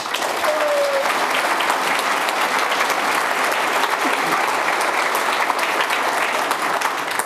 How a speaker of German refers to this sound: Gut, dann wollen wir es nicht länger aufhalten. Deswegen kurz einen warmen Applaus und dann kann es direkt losgehen.